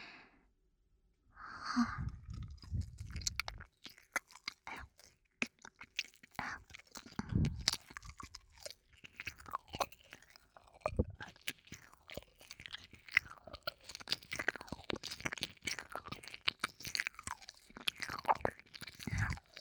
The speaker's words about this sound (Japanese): なので、もう少し強めに舐めてみますね。